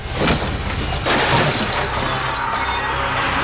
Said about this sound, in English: With a scream, Tepi swiped her arm across the table, knocking the candles and offerings onto the floor. Flames extinguished and bowls shattered.